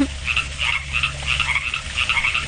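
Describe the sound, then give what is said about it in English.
A chorus of frogs croaks steadily at night outside a house in the country, in repeated bursts, several calls overlapping in a dense, rhythmic pattern over a low background hum, with no voices present. “No, I would take a shotgun out and kill all frogs.”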